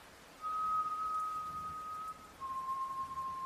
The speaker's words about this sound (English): Someone was whistling a slow, soft tune. I stood there, silently listening for a few moments, I guess in shock of what I was hearing and how out of nowhere it came from.